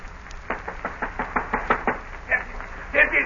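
A rapid series of about a dozen sharp knocks on a wooden door, evenly paced, followed by a couple of slightly heavier raps at the end.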